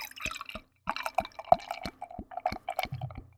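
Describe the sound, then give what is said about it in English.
Barley wine beer pouring into a glass in a quick series of gurgling glugs and splashes, moderately loud, with no talking over it. “So I am pouring it.”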